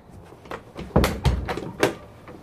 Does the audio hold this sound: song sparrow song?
no